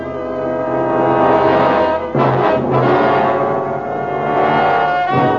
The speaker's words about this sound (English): A tiger! He must be after the lad.